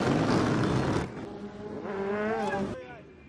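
Loud motorcycle engines roar past, a dense rumble giving way to a rising, revving whine before fading slightly at the end, as motorcycle enthusiasts ride the streets on a Friday afternoon, smoke coming from the bikes as they show off their riding skills.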